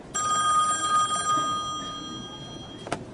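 A telephone rings with a bright, sustained electronic bell tone for about a second, then fades out, ending with a short click. No one speaks.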